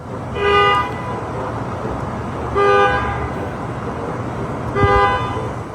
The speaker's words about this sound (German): Das war ein autonomes Hupen. Und das kam daher, dass dieser Parkplatz voll von Waymos, der war irgendwann relativ voll und es führte dazu, dass sich jetzt nicht nur einmalig, sondern quasi jede Nacht diese autonomen Autos gegenseitig anhupen.